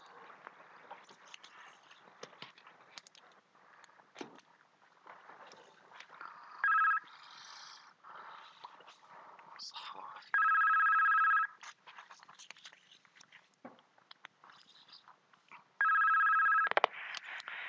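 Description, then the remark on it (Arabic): A telephone rings in three loud, buzzing bursts, the first short and the next two longer, separated by a few seconds of faint background noise. “شيخنا قبل ما يجي تليفون، بسم الله.”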